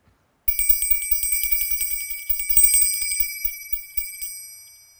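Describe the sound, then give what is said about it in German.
A small bell rings rapidly and continuously, a bright metallic trill with fast repeated strikes, fairly loud, with no one speaking. “Hört nur, die Glockenblume bimmelt.”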